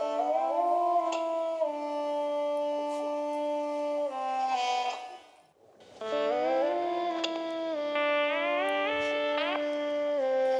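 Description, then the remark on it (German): A synthesized trumpet tone, chosen as the instrument and played by drawing a line with a pen, sounds in two long, loud sustained stretches separated by a short break, its pitch falling in small steps as the line is drawn downward. No one talks. “Und wenn du nach unten malst, wird der Ton tiefer.”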